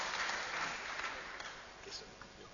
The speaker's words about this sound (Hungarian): Nekem nem tapsoltak, csak neked.